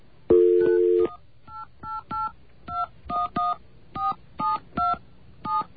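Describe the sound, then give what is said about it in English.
A brief steady tone, then about nine short, crisp telephone touch-tone keypad beeps pressed in a fairly even rhythm, loud, with no voices. “And I've discovered through a couple hours of playing around today on things I really shouldn't be playing with, that you can use that slamming door to your advantage by hitting touch tones as the door slams.”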